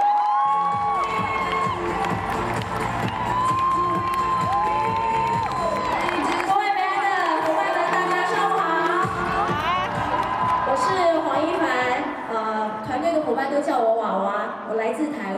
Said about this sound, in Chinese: 请大家帮我用最热烈的掌声欢迎来自台湾的